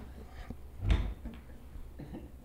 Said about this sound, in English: Well, what's happening all around us right now? We're hearing chairs move.